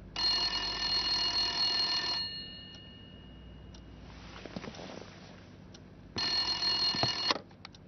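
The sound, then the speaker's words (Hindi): A home landline telephone rings loudly with a call from a bank: a bright, buzzing two-second ring, a pause of about four seconds, then another ring that cuts off. No one speaks. “आपके मोबाइल पर SMS भेजा लेकिन लगता है आपने देखा नहीं, इस वजह से घर के फोन पर डिस्टर्ब किया।”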